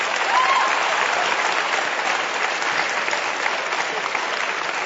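An audience applauds steadily, a dense, even wash of many hands clapping at a fairly loud level that holds for about five seconds without voices on top.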